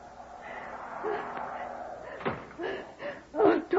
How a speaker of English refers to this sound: Oh, there's a door. Janie, open the door, please.